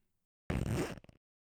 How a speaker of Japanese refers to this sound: 前を失礼します。おズボンのチャックを下ろして、